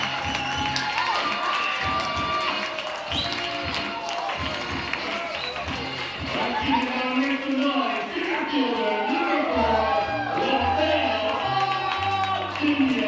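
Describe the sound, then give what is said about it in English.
A stadium crowd cheers after Angel Zarate's two-run home run just clears the right center field wall, putting the Hillcats up 2-0: a steady, dense roar of many voices with scattered shouts and whoops that holds at an even loudness for about thirteen seconds. “A little bit of a delayed reaction in the crowd.”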